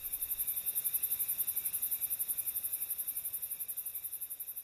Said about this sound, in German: Wenn in der senkrecht herabfallenden Hitze die Erde glüht, dann schlagen die Zikaden das Lied aus ihren Flügeln noch einen halben Ton höher an.